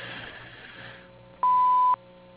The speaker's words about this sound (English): No one can take your call right now. If you would like to leave your name and telephone number, someone will return your call as soon as they can. Please wait until after the beep to leave your message.